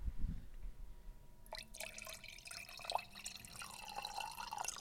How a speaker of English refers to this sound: Oh, we're pouring more Portland tears into our cups. Give us just a sec.